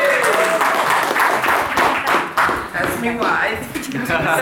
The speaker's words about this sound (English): Come. Big round of applause. Come on. Woo!